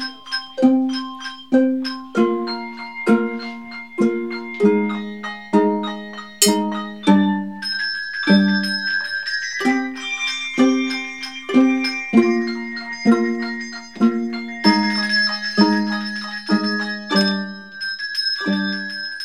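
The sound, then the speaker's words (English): Handbells or chimes ring out a steady, rhythmic melody, each struck note sharp at the attack and ringing on, with layered high tones shimmering in the second half. Clear, no voices. “So there are lots of different ways to play the bells, which it's very exciting to see how a composer uses different techniques.”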